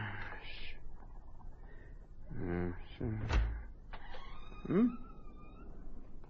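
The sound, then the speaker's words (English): A door creaks open on squeaky hinges and shuts with a dull thud, followed by another short, whining squeak against a quiet background. “Bastard door.”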